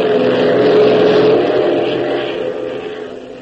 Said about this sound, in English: As though in answer to Tank's pessimistic outlook, Hop opens the throttle to the last notch, sending the Beech roaring ahead at top speed.